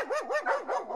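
A dog barks in a rapid run of short, yappy barks, about five in quick succession. The sound is fairly loud, with no voices.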